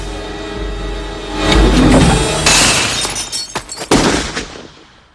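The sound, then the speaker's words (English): A glass knocked out of a man's hand crashes and shatters on the ground, giving way to a couple of sharp, cracking gunshot bangs from a gun, each with a brief ringing tail, over a low rumble. “Court looks down and sees that he's holding a smoking gun.”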